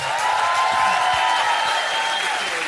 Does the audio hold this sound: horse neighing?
no